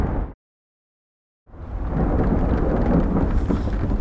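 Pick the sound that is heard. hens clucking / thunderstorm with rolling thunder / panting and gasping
thunderstorm with rolling thunder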